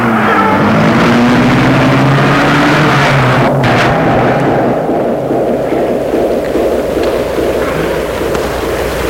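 A large black car's engine roars to life, its pitch climbing as it revs before settling into a loud, steady rumble that lasts throughout.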